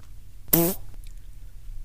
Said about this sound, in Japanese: 屁の著作権もやっぱねあるかもしれません、いつか。